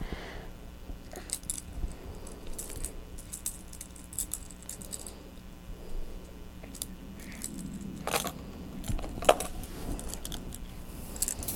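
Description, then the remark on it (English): Metallic jingling and clinking of keys, a busy stream of small irregular rattles and taps, with a few sharper clanks standing out, no voices. “Oh, the keys. Yeah, those are fun.”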